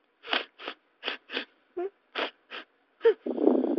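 A run of about eight short, sharp nasal sniffs from a big plush toy dog come to life, in an uneven rhythm, fairly loud, ending in a longer, shaky, whimpering breath like tearful sniffling.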